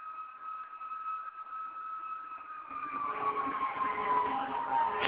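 A fire engine siren wails steadily, growing louder as a rumbling engine joins in, then its pitch bends downward as the truck passes by; one of a bunch of fire engines going somewhere in the morning.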